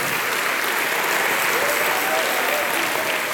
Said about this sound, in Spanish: Bendito sea el nombre del Señor. Den un fuerte aplauso a nuestro Señor Jesucristo.